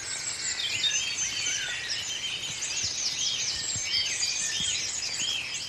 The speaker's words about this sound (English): Yeah, red pole is an interesting one. It's on the red list of conservation concern. It's a small finch, and it's got a lovely sort of buzzy call, a trilling buzzing call, and occasionally gives off these sort of machine gun-like bursts as well.